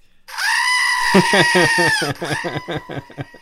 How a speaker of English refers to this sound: Oh, no. Is that Andy's goat?